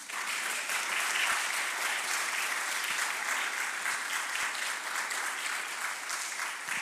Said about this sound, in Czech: Zbor … nás dneska bude provázet počas programu svými písněmi, ale předtím, než začne, bychom jim mohli přivítat potleskem drobným.